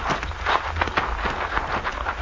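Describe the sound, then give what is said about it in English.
Horses, including one named Diablo, are led uphill, their hooves clopping at an unhurried walking pace, a steady string of dull thuds and scrapes, with a low rumble underneath and no talking. “We will lead the horses up”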